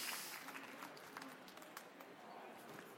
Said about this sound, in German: vielleicht mit einem kleinen Applaus für Juliane Blech